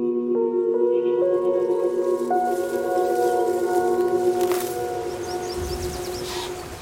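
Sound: wolf howling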